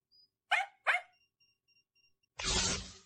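A dog barks twice in quick succession, loud, in a VTuber video about a dog's barking collar, followed by a few faint high beeps and then a sudden burst of loud hissing noise. No one speaks.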